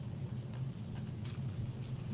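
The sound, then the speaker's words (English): Soft, steady rain patters continuously in the background, a faint, even hiss over a low rumbling hum, with no voices and no distinct individual drops standing out. “Ah, the gentle sounds of rain.”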